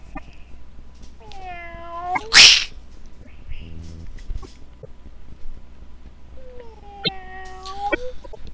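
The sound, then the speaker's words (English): Voices imitate three cats mating and yowling: two long, wavering, high-pitched wails a few seconds apart, with a sharp, loud sneeze-like burst after the first. The sounds stand alone, without ordinary talk. “Man, somebody needs to get an avatar of those three cats having sex.”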